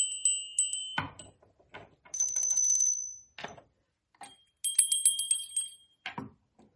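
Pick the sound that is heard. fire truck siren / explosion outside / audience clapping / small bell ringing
small bell ringing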